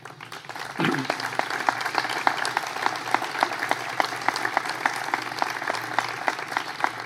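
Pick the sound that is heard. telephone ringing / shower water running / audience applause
audience applause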